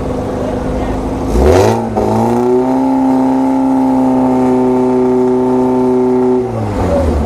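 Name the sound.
race car engine revving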